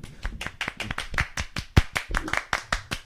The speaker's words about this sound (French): Bravo. Tonnerre d'applaudissements.